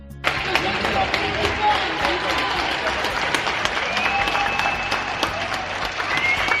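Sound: neighbours applauding from balconies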